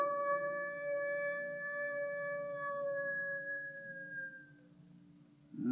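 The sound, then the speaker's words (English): A single long wolf howl holds one steady, drawn-out note for several seconds before trailing off, over a faint low rumble, with no one speaking. “You got company. Wolf.”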